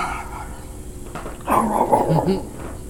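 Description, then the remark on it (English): A person imitates a dog's bark at a JBL Bluetooth speaker with one short, gruff vocal burst. It is fairly loud. “I barked at it.”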